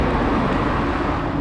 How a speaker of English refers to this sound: That is the sound of trucks rumbling through the industrial wasteland just east of downtown LA.